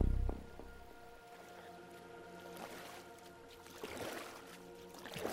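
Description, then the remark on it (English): A rowboat moves through the water, with oars dipping and splashing at a slow, irregular pace over a low steady hum. The sound is moderately quiet, with no one talking. “After we've rowed all the way out?”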